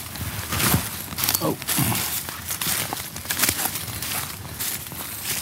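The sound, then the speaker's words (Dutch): Crunching, rustling footsteps move steadily through dense forest undergrowth between two paths and over fallen tree trunks, twigs and leaves snapping underfoot, with a bird calling briefly. “Ja, we lopen nu een stukje tussen twee paden door.”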